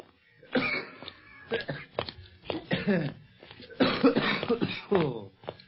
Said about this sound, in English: Phew. That coughing spell of yours sure got us out of a tight pinch, Barney. Sure was lucky you swallowed wrong.